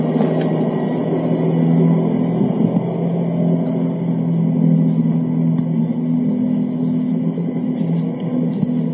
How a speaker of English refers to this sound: There goes the pseudo cable car.